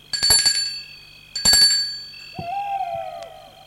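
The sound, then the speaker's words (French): A doorbell at the front door of a house, rung by a woman who has stepped onto the front steps, rings in two bright, metallic chime strikes whose tones linger and fade, followed by a softer, lower sustained tone that slowly slides downward. “Sonne.”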